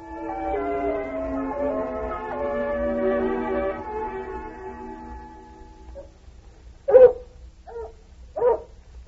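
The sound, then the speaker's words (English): A young female hound pup named Lady Anne lets out a long, wavering howl that slowly fades, then follows with four short, sharp barks in an uneven rhythm. No one speaks. “Wouldn't be surprised if she turned out to be the best hound we ever had.”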